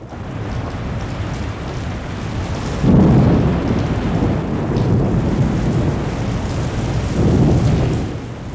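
Steady heavy rain hisses throughout, with deep rolling thunder swelling in low rumbles around the third second and again near the end. No voices, just a loud, violent all-day thunderstorm from a large storm sweeping the highlands, at Ma Lâm station on 20 October 1926.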